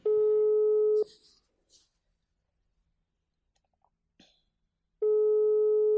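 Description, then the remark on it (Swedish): An outgoing call's ringing tone: a loud, steady electronic beep lasting about a second, a long silence with faint clicks, then the tone starts again. “Ringer vi?”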